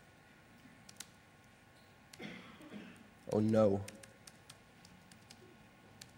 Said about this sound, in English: The PC screen might also be interesting, but I'll just tell you what I'm typing.